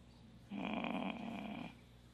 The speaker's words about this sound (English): Are you sleeping? Is that a light snore? A monkey? No. It was a groan.